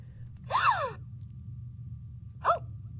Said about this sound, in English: Like a gasping sound? Yeah. So when you push the... I think we have Hasbro's, that doll.